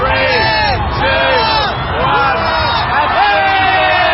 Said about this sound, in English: In one of the globe's most watched New Year's Eve spectacles, the crowd counted down the last seconds of 2019 as a luminescent crystal ball descended down a pole.